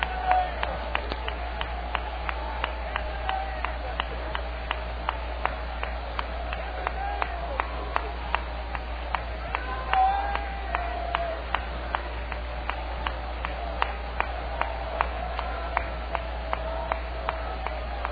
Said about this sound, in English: There's a great spirit of worship in this place tonight. Would you clap your hands again and lend your voice to that and give yourself to what is here in this place?